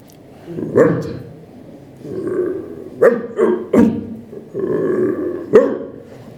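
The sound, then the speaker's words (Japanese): A dog barks about five times in short, sharp bursts at irregular intervals, with lower rumbling, growl-like sounds between them. The barking is moderately loud. “はい、犬です。”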